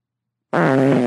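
A single loud, sustained fart with a buzzy, tonal rumble kicks in abruptly after a stretch of silence and carries steadily to the end, alone with no talking.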